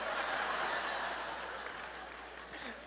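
A crowd applauds steadily, the dense clapping holding at a fairly even level for a few seconds before easing slightly, with faint laughter mixed in.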